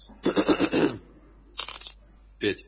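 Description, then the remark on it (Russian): A six-sided die rattles and clatters across a surface in three bursts, coming up five, the first about a second long, followed by two shorter, sharper tumbles with brief pauses between. “Кубик кинь до шестой.”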